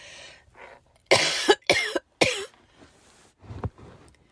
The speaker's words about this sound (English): Now I'm going to cough.